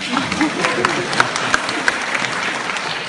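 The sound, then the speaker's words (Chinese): A crowd applauds steadily for about three seconds at a xiangsheng (crosstalk comedy) show, after a Deyunshe performer introduces himself and asks for applause. It is a dense wash of clapping with a few sharper claps standing out, fairly loud and with no voices over it. “我叫…啊，鼓掌啊。”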